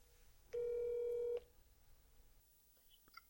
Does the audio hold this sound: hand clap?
no